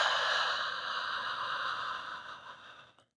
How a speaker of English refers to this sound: So let's start relaxing into the space that we're in. Let's take a deep breath together. Breathe in through your nose. And out through your mouth.